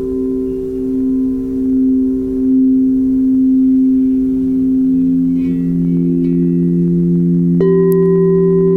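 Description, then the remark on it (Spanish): Singing bowls ring in long, steady, humming tones that layer and slowly waver, with a fresh bowl struck near the end adding a brighter, higher shimmer. No one speaks. “Y siente el sonido de los cuencos.”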